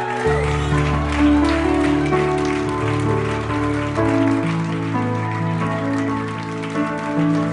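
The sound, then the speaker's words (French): An audience claps to applaud God in a dense, continuous patter while sustained keyboard chords play underneath, changing pitch every second or so. The applause stays loud and even throughout. “Dans le nom de Jésus, est-ce qu'on peut applaudir notre Dieu qui nous a donné l'autorité?”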